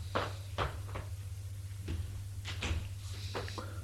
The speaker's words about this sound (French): La porte s'est ouverte.